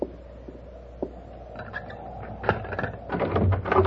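A door is unlatched and pulled open: a few sharp clicks, then a rattling, scraping creak that grows louder toward the end. No one speaks.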